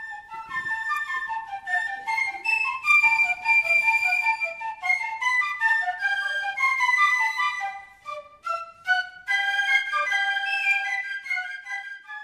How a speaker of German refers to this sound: Und gut sind schliesslich, wie jedes Jahr, die musikalischen Vorträge von der Rotstab-Klicke, stellvertretend hier Pfifferinnen und Pfiffer mit dem Sirpfli.